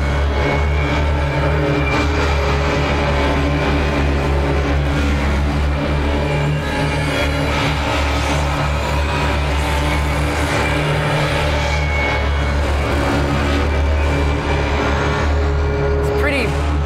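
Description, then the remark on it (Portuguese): A thick, harsh drone made with guitars for the game Doom holds steady and loud for the whole stretch, a deep rumbling low end under a gritty, buzzing wash of layered overtones, almost like a revving engine. “Toda essa barulheira é com guitarra que ele fez, esse som de drone.”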